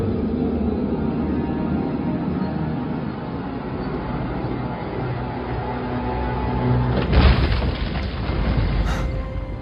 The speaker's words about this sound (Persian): چه خبر شده؟ ببینم این انفجارا کار کیه؟